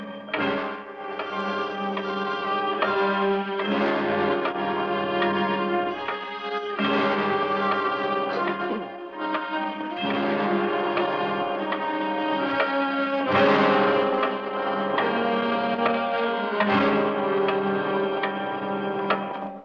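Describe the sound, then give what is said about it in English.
The Big Clock, the clock of the radio play The Big Clock, ticks slowly and heavily, with a strong beat roughly every three seconds. Each tick carries a ringing, resonant, echoing tone that fills the space between beats. No one speaks. “But first of all, listen to the other star, the clock itself, The Big Clock.”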